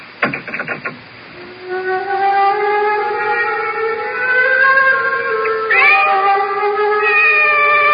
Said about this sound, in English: The cat's awake. Her yellow eyes are fixed on me with that calculating look.